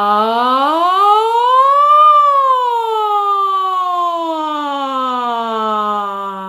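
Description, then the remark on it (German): A voice imitates a siren in a vocal exercise, one continuous sustained tone that glides smoothly up in pitch and then slowly slides back down, steady and fairly loud with no other talking. “Erstmal eine kleine Sirene und dann erweitern wir das noch.”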